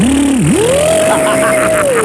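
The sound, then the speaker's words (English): A voice imitates a revving drag race car, a loud, steady vocal drone that dips low briefly, then climbs and holds a higher pitch for about two seconds before easing down. “A car, a drag race, a blender.”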